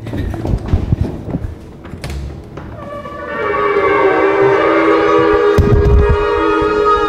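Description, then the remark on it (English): Several shofars (ram's horns), blown together by about ten people at All Souls Unitarian Church, blare in loud, overlapping, sustained brassy tones that swell in after a few seconds of muffled rustling and hold to the end, with a dull thump near the close. “So shofars were the horns that apparently knocked down the wall, so we wanted to measure how loud they could be.”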